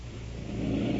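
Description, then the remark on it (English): Harsh, labored breathing from a female patient awaiting an ambulance, with a low, rough rumble, steady and growing slightly louder over one continuous second, with no talking. “Is it the fourth breathing that's making the noise?”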